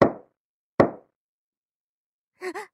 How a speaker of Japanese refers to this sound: このお部屋だよね。それじゃあノックして。